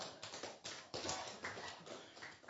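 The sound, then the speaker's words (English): A run of about nine sharp hand claps at an uneven, fairly quick pace, each a bright percussive smack, with no voices over them. “Were you trying to clap or something? Was that a clap?”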